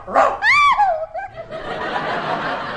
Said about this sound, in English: He wagged his tail and barked. Does that mean he's recovered?